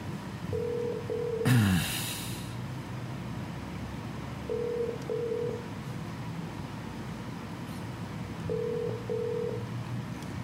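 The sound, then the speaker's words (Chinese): A phone line rings out with a steady ringback tone as a phone-in show calls a listener: short double buzzes repeating about every four seconds while the call waits to connect, with a brief burst of noise near the start. “电话未拨通。”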